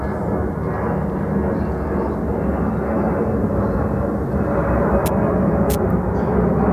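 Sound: airplane flying low overhead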